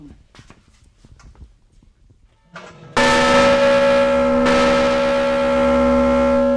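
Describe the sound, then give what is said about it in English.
A large metal river boat bell, once carried on boats up and down the Ohio River, is struck once with a loud clang, its deep, rich overtones ringing out steadily for several seconds. Faint tapping and shuffling come before the strike. “This one over here, I'll clang it once.”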